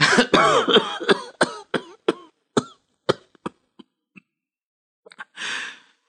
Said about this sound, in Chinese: 一阵剧烈的咳嗽使卢秋影不得不停下话头，他退坐在沙发上，蜷缩着身子，咳嗽着，喘息着，一颗颗汗珠从他那鼻尖上额头上渗出来。